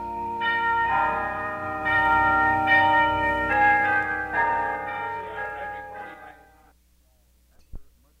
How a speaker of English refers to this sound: Of course, what you will hear now are test sample recordings made of the world-famous tubular bells.